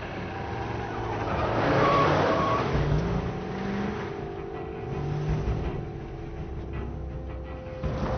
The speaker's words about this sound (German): Hey, da kommt ein Auto.